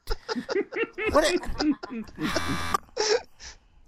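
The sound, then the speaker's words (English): Amid lively chatter, a voice lets out a loud, harsh, sustained buzz lasting about half a second, imitating a game-show wrong-answer buzzer to censor a swear word, followed by a couple of short vocal bursts. “Yeah, I heard like a buzz, like wrong answer, motherfucker.”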